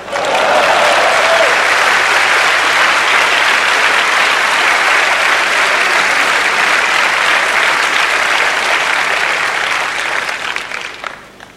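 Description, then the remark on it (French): Sustained audience applause, a dense wash of many hands clapping at steady loudness for about ten seconds before tapering off at the end, with no talking. “On peut parler encore de la collégialité d'applaudissement.”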